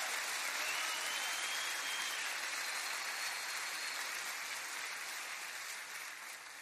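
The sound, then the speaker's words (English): An audience claps hands in praise of Jesus, a dense, steady wash of applause with no voices, holding level before easing off slightly toward the end. “Give him a hand clap of praise in this house today.”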